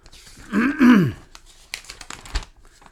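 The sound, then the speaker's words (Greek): Paper rustles and crinkles in a few short bursts as someone searches through sheets for a paper, with a brief low vocal murmur just before. “Λοιπόν, αχ, πού το χαρτί.”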